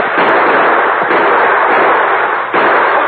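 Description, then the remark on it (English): Loud, dense gunfire from riders, shots overlapping into a continuous crackling roar that surges anew a few times over about three seconds, with no voices. “Horses, a couple's fired on us. Grab your rifle.”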